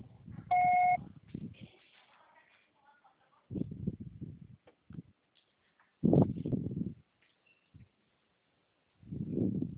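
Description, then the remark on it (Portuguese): A short, steady electronic beep, a telephone voicemail tone signalling the start of message recording, sounds once near the start over muffled rumbling, followed by several low, indistinct bursts of noise and faint murmuring. “Grave seu recado. Por sua só será tarifado após o sinal.”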